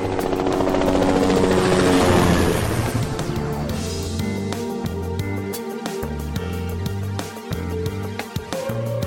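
A helicopter roars loudly, its rotor thumping steadily as it climbs higher and sweeps past along the cliffs, then settles into a sustained drone with a rhythmic low chop; no one speaks.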